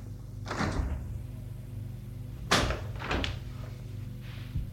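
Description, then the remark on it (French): A door opens with a handful of distinct clicks and soft knocks spread over a few seconds, the last one faint, above a low steady hum and no talking, as a man enters a children's bedroom. “Mais en passant devant la chambre de Pierre et de son frère, il voit qu'il y a la lumière qui passe à travers le bord de la porte. Il entre.”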